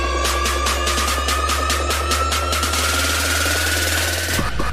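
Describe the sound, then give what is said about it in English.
A crude homemade jingle introducing a movie review segment called IMAX: a loud, buzzy drone over a steady low hum, with quick rhythmic pulsing through the first half and a sustained tone, ending abruptly. No voices. “It's now time for IMAX, and I've made a little jingle.”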